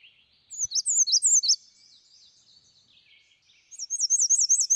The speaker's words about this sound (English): All right, we've got another call, a bird call here. Warblers fly over Wisconsin. Here's the, I'm not familiar with this one, the American Red Start.